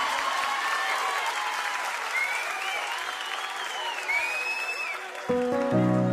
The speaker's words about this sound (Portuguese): Aplaude, aplaude, aplaude, aplaude, aplaude, aplaude, aplaude, aplaude, aplaude.